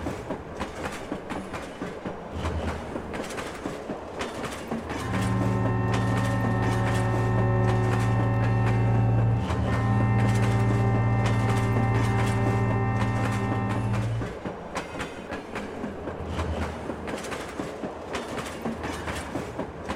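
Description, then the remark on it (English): The Ghan passenger train rolls steadily along the rails between Rumbalara and the Alice, wheels clattering in a continuous rhythm, with a loud sustained horn-like drone rising in the middle before the rumble carries on alone. “Almost objects of interest as the Gan moves between Rumbalara and the Alice.”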